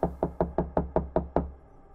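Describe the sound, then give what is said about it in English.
A rapid, even series of about eight firm knocks on a door, fairly loud, each with a solid thud, ending abruptly with a brief quiet tail and no voices. “I was woken up the next morning with a splitting headache and the sound of knocking coming from my door.”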